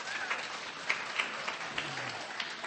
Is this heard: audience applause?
yes